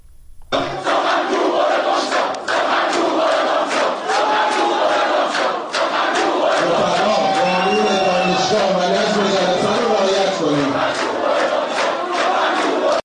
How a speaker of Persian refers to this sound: شعارهای مختلفی دانشجویان سر دادن و به نوعی مانع از سخنرانی آقای بهادری جهرمی شدن. حجم شعارها رو در این صدایی که الان میتونید بشنوید میتونید شما رو هم در جریان قرار بده.